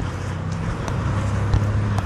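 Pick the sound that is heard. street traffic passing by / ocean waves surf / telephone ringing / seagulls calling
street traffic passing by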